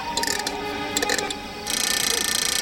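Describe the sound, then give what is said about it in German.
A key winds up a clockwork cannon: a steady run of rapid ratcheting clicks, bright and mechanical, with a brief pause before a denser, faster burst of ticking. No voices. “Mit einem Schlüssel zieht Rasmus seine Kanone auf”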